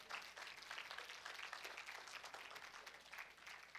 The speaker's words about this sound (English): And because some of you are clapping, other people think you're weird because of that. And that's why they don't want to come to church. Now, I like clapping. I think we ought to do it more.